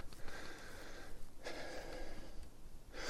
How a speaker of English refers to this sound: I am breathing harder.